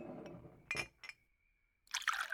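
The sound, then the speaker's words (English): Glass clinks a couple of times, then liquid pours into a glass with a bright, splashy fizz near the end as a drink is served. Fairly quiet, with no talking. “You need anything to drink? I mean, you look pretty thirsty to me.”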